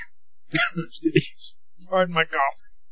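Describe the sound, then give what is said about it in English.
A quick series of harsh, explosive coughs from a preacher during a sermon on healing, about four close together, followed by a brief stretch of a man's voice, moderately loud. “Pardon my coughing.”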